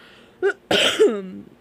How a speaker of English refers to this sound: Sorry, I need to cough a bit.